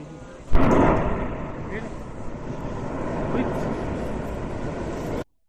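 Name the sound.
volcanic eruption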